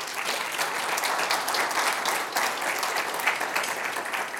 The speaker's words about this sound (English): Thank you for answering the call to serve. Will you guys give those servants a round of applause, please?